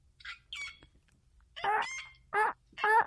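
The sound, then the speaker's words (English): A person does a squawky, honking bird imitation meant to sound like a pelican, a few short calls and then three louder strained bursts, with no words spoken. “Are you doing Pelican Sounds, or are you trying to show where the Pelicans eat everything?”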